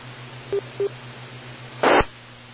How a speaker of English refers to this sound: I heard a little beep that sounded like it might be the link.